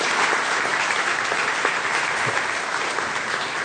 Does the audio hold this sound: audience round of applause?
yes